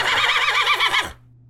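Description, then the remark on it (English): A horse neighs loudly, a single long whinny with a quavering, wavering pitch lasting about a second before cutting off to a faint low hum. “But first, let's hear our late senator's final wishes straight from the horse's mouth.”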